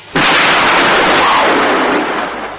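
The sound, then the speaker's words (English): A sudden, loud explosion from a chemical reaction of Alstorine and sea fungi in test tubes bursts out and then roars on as a dense, hissing rumble, fading only slightly over a couple of seconds. No voices are heard. “It adds up to a very large explosion in whatever area one finds both A and B.”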